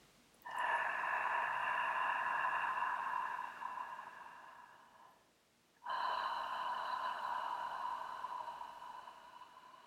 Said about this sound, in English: You might need to moisten your lips and swallow. So breathing in a soft ah, breathing out a soft ha.